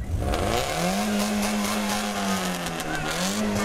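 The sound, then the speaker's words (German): An old VW T3 Bulli van engine drones steadily while driving off from the Hamburg Fish Market, a low harmonic hum that rises slightly in pitch as it pulls along, loud throughout with no talking. “sind also in Luna gestiegen, den alten VW T3 Bulli, haben 850 Euro Startgeld gelatzt und sind vom Hamburger Fischmarkt losgefahren”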